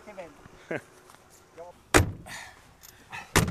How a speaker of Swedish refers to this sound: Och jag får åka Mercedes och se då, här öppnas dörren och händer som far bakåt.